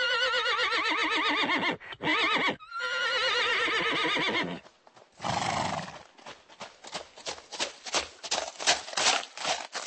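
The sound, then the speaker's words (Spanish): A white horse gives a loud, wavering whinny, snorts, then trots off with a steady run of sharp clip-clopping hoofbeats on a hard surface. “El templario y su corcel blanco han desaparecido en el enmarañado laberinto de las callejuelas de la ciudad vieja de Praga.”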